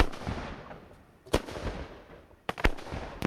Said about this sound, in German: es sei nicht Maniers erstes Feuerwerk